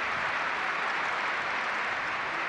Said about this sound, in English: As the Pope's simple Cyprus coffin was carried out of St. Peter's Basilica and onto the steps in front of the altar facing the square, the crowds erupted in applause.